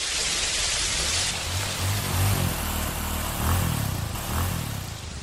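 A motorcycle engine hums low and rises in pitch as it comes down a slope in the mountains, heard beneath a steady hiss of heavy, pouring rain, with no voices.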